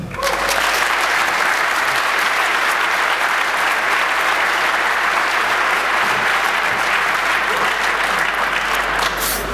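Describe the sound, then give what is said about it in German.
Sustained audience applause, a dense, steady wash of many hands clapping at a loud, even level for the full stretch, with no talking heard over it. “Von daher, lass uns mit einem freudigen Applaus begrüßen”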